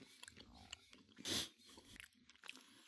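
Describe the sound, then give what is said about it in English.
Crunchy chewing of a candy-shelled jelly bean: several small crackly bites around one loud, sharp crunch midway, with no one speaking. “Candy shell.”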